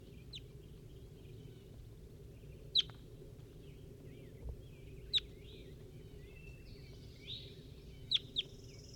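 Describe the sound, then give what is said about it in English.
Field recording of the bird designated 4-3: sharp, high bird chirps ring out over a steady low rumble of background noise, with softer warbling notes scattered between them and a quick pair of calls near the end. “Start recording Bird 4-3.”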